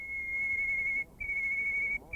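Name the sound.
white-crowned sparrow song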